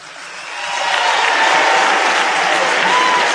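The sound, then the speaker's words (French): Audience applause for trade union figure Annick Coupé swells up over the first second into a dense, steady patter of many hands clapping, holding loud and even to the end with no voices over it. “Voilà pourquoi, à côté de moi, j'ai Annick Coupé, que vous pouvez applaudir.”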